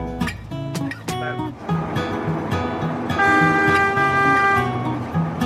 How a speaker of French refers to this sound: Toujours côté bricole en Équateur. Vous êtes monté à bord d'un train-bus autoferro et vous êtes allé tout naturellement discuter avec le chauffeur.